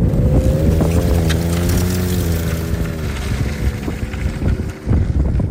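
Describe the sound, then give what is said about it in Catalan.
A snowmobile engine drones loudly in Svalbard, its buzzing pitch holding steady then dipping slightly, with gusty wind rumbling over the microphone throughout. “El vent és un dels sons omnipresents a Svalbard, l'altre, el de les motos de neu.”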